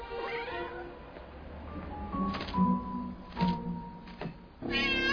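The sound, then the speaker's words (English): A cat meows, a couple of drawn-out, wavering cries at the start and end, with soft thumps and rustling in between and no talking. “Thank you, kitty.”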